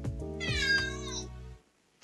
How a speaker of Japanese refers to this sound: 猫ちゃんの声。 そう。 鳴き声ですね。はい。 ね、あれ猫かなって誰もが一瞬で認識すると、 うんうんうん、 でもね、リアルは、 うん、 にゃーなんですよ。